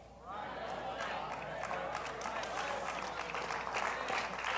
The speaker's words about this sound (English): Thank you for whoever's clapping. Send them a check.